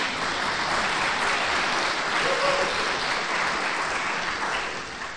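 A crowd claps steadily for several seconds, a dense, continuous wash of applause that stays fairly loud before tapering slightly at the end.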